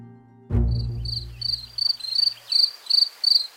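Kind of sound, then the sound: insect, cricket chirping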